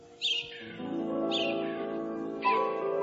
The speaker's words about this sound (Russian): Скворцы поют.